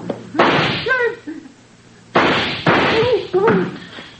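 Four loud, sharp gunshots aimed at a door lock: one, then a pause, then three more in quick succession. Brief voiced cries sound between the bangs.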